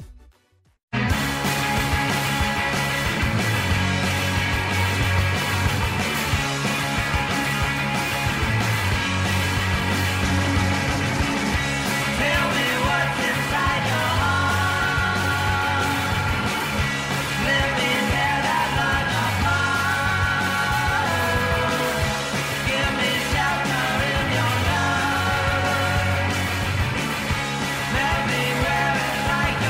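A loud, dense rock song by a young Bay Area rocker, with driving drums, distorted guitars and a shouted-sounding vocal, kicking in after a brief silent moment and staying at full volume throughout with a repeating bass figure.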